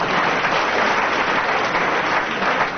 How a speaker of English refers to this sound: For which he earns an enormous round of applause, bordering on an ovation.